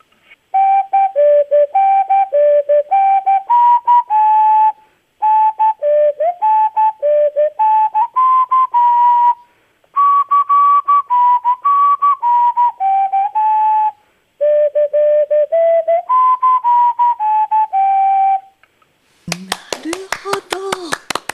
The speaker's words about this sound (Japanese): ではいつもオカリナを吹くときに毎回定番として曲で火の用心の歌という、 あ、いいですね。 はい、それを吹きます。